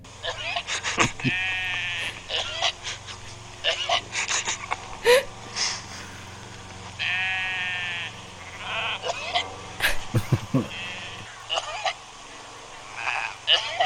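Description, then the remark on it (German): Sheep bleat repeatedly, a series of wavering, nasal cries, some short and some drawn out, rising above a low steady background, with a person briefly laughing and murmuring between them. “es gibt keine Schafe, es gibt nur Menschen im Schafskostüm”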